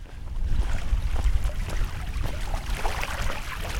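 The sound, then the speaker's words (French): Small waves lap softly at the water's edge in a steady, irregular rhythm of gentle splashes over a low rumbling wash, with no voices. “C'est sur ces petites vaguelettes que se termine la balado au bord de l'eau.”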